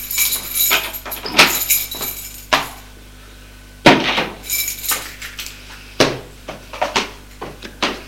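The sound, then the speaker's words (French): Keys jangle and clink in quick bursts, with sharp metallic clicks and rattles, as a man opens an apartment door with his own keys without ringing. Loud, bright and irregular, with short pauses between clusters; no one speaks. “Et va ouvrir la porte de l'appartement sans sonner. Il a les clés.”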